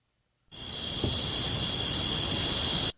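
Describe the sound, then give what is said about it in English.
Steady, continuous cricket chirping starts abruptly and holds at an even, moderately loud level, a bright high-pitched trill with no pauses and no talking. “I get crickets?”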